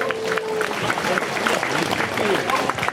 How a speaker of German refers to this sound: Ja, wir waren stehen geblieben bei der Polizei, die uns so schön hier durch die Straßen geleitet und die ihren verdienten Applaus dafür auch schon bekommen hat. Ja, gerne nochmal.